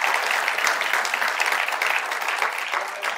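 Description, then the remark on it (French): A church audience applauds God steadily, a dense wash of many hands clapping at an even, fairly loud level throughout, with no talking over it. “Est-ce qu'on peut applaudir notre Dieu qui a la victoire pour nous?”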